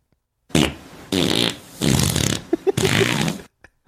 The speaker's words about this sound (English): It says farts couple. Yeah, like a couple of farts. Oh, I thought it was like a couple farting together. No, I just wrote couple because it's like a couple of them. Like a call and response.